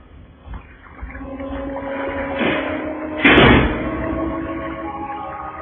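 A room door pushes shut with one solid thump partway through, set against a steady low background hum with no talking.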